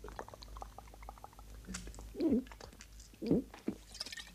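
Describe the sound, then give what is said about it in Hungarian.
A person whimpers twice, two short wavering moans about a second apart, over a faint background of light patter and small clicks. “Szomszéd, maga mit csinál itt? Nyöszörög.”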